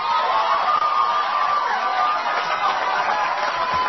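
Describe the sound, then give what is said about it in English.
A large crowd cheers and applauds in a dense, continuous roar that stays loud and steady for the whole stretch, with no individual voices standing out. “I'm not sure that was the applause line, because it makes it sound like Pappy's followers are happy that the Republican primary was decided by liberal Democrats.”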